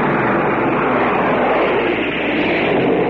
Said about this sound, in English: Now planes are going overhead.